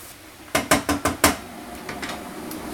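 A utensil knocks and scrapes against a pan as onions are stirred: five quick, sharp clacks in a row, then a few fainter taps, with no one speaking.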